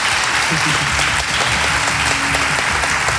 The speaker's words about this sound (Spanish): Y que ahora van a despedir con un fuerte aplauso a la alcaldesa y al presidente de la Diputación.